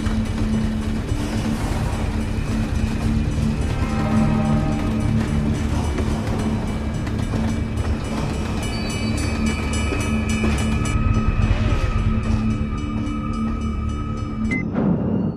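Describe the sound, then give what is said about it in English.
A train rumbles past, a loud, steady low roar with metallic ringing and squealing tones layered over it, continuing throughout with no voices. “Kim watches him through the corner of her eye and anxiously waits for the train to pass.”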